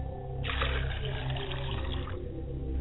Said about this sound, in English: I pour libations to the East, and I say, Ashe. And I pour libations to the West, and I say, Ashe.